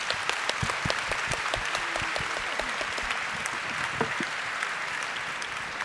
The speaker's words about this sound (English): Je vous remercie pour la clarté de cette décision judiciaire, mesdames et messieurs, nous pouvons les applaudir. Bravo.